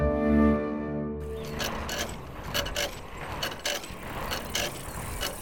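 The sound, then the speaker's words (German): A scooter, on which the Sandmännchen arrives, starts with a low, steady droning hum for about a second, then breaks into loud rattling, clattering mechanical noise with irregular clicks and ticks. No one speaks. “Mit dem Roller.”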